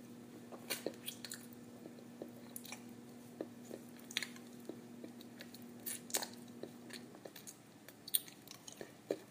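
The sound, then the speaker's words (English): Wet mouth noises of lips sucking and slurping: irregular soft smacks, sucking and slurping clicks scattered throughout, fairly quiet, over a faint steady hum with no talking. “My lips gently kiss your tip, wrapping around your head, sucking and slurping.”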